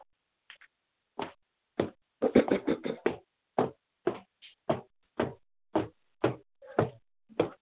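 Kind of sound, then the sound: household object, knocking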